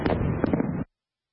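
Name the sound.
fireworks exploding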